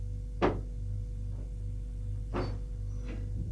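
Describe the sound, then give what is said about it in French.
A door opening: a sharp clack, then two softer thuds and scrapes spaced about a second apart, over a steady low hum with no voices. “La porte s'ouvre.”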